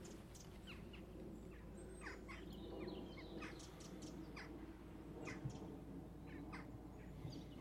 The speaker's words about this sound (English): It is absolutely, the path is perfect, the scenery is perfect, and you can hear all the birds around me. I mean, they're crows, of course, but blackbird.